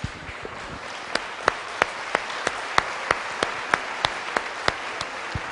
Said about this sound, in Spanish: Démosle un aplauso a él.